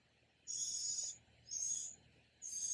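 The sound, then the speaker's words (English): A baby bird chirps insistently, giving three shrill, raspy high-pitched calls in a steady repeating rhythm, each lasting about half a second, with no voices present. “Somebody feed that baby bird down.”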